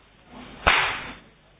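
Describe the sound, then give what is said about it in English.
A single sharp hand clap, given for children, cracks out of near silence, loud and bright, with a brief ringing tail that fades within about half a second. No one speaks. “And one clap, the compasses.”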